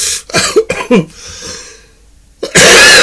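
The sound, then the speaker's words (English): A few harsh coughs in quick succession, then a short pause before another loud, rough burst of coughing at the end. “Not good with this cough today.”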